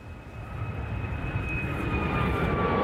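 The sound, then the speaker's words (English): A steady, loud airplane engine roar with a low rumble and a sustained high whine, growing slightly louder over a few seconds, with no talking; a plane from Ottawa carrying about 31,000 liters of clean water, landing in Iqaluit, Nunavut. “A plane from Ottawa carrying about 31,000 liters of clean water has landed in Iqaluit.”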